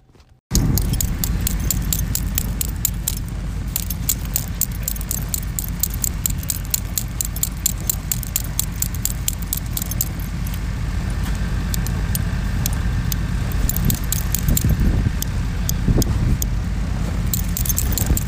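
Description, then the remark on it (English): Frozen brass-on-brass harness snaps of a dog-sled musher clank and jangle as they are knocked together to unfreeze them on a cold morning, in steady, repeated metallic clicks over a loud, continuous low rumble, with brief pauses and bursts of faster clattering throughout. “Our morning started out with the clanking together of brass-on-brass snaps to get them unfrozen.”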